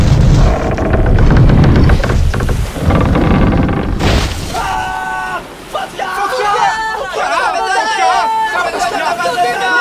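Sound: loud thunderclap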